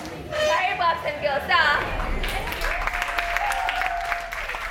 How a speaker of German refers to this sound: Am Ende gibt es Applaus für die Trainerinnen, die nach Stunden der Motivationsreden schon etwas heiser sind.